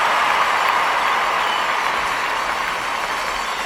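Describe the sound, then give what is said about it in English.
A crowd roars with sustained applause at a trick, a dense wash of clapping and cheering that stays loud and steady throughout with no individual voices standing out. “The crowd roared with applause at this marvelous trick.”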